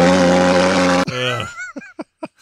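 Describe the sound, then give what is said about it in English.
A loud, steady mechanical drone of a truck-mounted mosquito fogging machine's engine roars for about a second, then cuts off abruptly, followed by a few short vocal sounds. “Growing up in the Rio Grande Delta, that it was really common to drive around a truck with a thing like that on the back of it to try to kill mosquitoes.”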